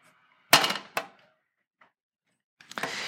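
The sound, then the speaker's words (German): A metal ladder being set up: two sharp, ringing clangs close together, a faint tick, then a busy rattling clatter of metal parts shifting. No one speaks. “Oder anders formuliert, wachsen heißt nicht, und jetzt brauche ich diese Leiter, wachsen heißt nicht Stufen erklimmen.”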